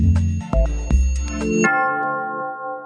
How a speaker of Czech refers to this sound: Po blagoslovu njegove svetosti patrijarha srpskog gospodina Porfirija, u podne su zvonila sva zvona na pravoslavnim hramovima, pozivajući vjerni svetosavski narod na usrdnu molitvu, smirenost, međusobnu solidarnost i nepokolebljivost u činjenju dobra